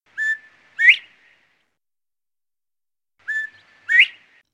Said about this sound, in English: The bobwhite calls out its name.